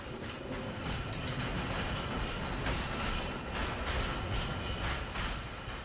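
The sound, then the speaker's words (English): A steady, continuous rumble of an early electric tram, powered through its rails, rolling along tracks: the world's first electric tram, in Lichterfelde in 1881. Faint rhythmic clicks and metallic squeals sound over a dense low roar, fairly loud throughout. “We call the new trams the Elektrische because they're no longer horse-drawn trams. They run on electricity.”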